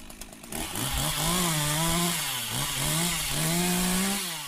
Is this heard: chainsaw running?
yes